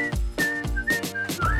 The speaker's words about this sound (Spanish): La canción del silbidito.